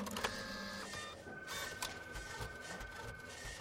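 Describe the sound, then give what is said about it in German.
An office printer runs steadily, whirring and clicking as paper feeds through, with a constant mechanical hum and a few sharper clacks, moderately loud with no one talking. “Das ständige Geräusch in vielen Büros. Die Drucker laufen und laufen.”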